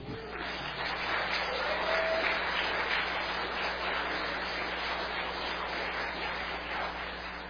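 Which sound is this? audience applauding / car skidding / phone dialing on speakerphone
audience applauding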